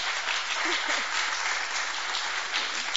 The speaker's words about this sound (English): Can we give these two a hand of applause, please?